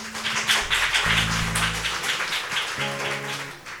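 A crowd applauds steadily for a few seconds, a dense crackle of clapping over low sustained musical chords, with no one speaking.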